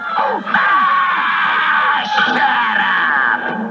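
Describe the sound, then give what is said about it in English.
A rooster squawks loudly and frantically, a steady stream of harsh, shrill, overlapping cries with no pause for nearly four seconds. “Sounds like Foghorn Leghorn is taking old JP to task for stealing his woman's eggs.”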